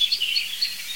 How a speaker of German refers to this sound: Und auf jeden Fall jetzt eine sich aufregende Amsel, die wirklich empört ist, muss ich sagen. So ganz weit da hinten, da hört ihr das Flippen der Amsel. Aber das ist alles hinter diesen schimpfenden Amseln.